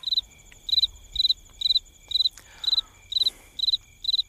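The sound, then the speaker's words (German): A cricket chirps in a steady, regular rhythm, about two high trilling bursts per second, clear, with only a faint low background hum and no voices. “Können wir ungefähr 6 Minuten Grillenzirpen haben?”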